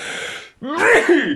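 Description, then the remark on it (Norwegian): A single loud sneeze: a breathy intake, a brief pause, then a sharp voiced burst that trails off quickly. “Prosit.”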